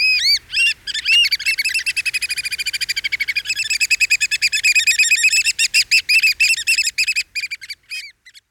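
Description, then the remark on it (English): A large shorebird with a black head, long red beak and brown back, at Buzzards Bay, gives loud, piercing whistled calls in a rapid, accelerating series of sharp notes that run together, then slow and fade near the end, over a quiet background. “Their repertoire includes loud whistled calls and boisterous pair interactions.”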